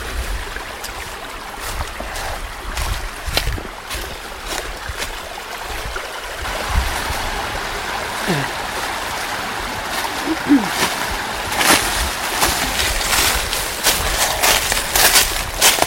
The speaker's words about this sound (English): There's the, I guess we can go around the, we're crossing a brook here and a big tree has come down. So, here we go.